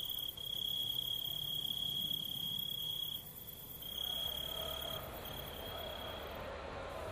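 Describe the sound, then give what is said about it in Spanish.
A dense chorus of cicadas on a summer afternoon at Poblado de Anguila Fuente, Spain, buzzes continuously in a shrill, unbroken drone that stays fairly loud and steady throughout, with no voices and only a faint outdoor hush beneath. “Cigarras en una tarde de verano.”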